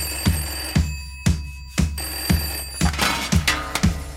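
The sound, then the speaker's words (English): A telephone bell rings, its metallic clatter striking rapidly about twice a second over a bright, sustained ringing tone, fairly loud with no voices. “Phone rings.”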